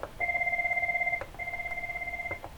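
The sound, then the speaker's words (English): A desk phone gives two electronic beeps as mute is switched off, each a steady warbling tone lasting about a second with a brief gap between them. Moderately quiet, with no talking. “Mute off. It does those beeps.”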